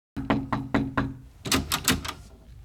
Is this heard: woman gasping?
no